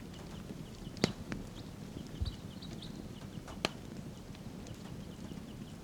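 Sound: wild birds calling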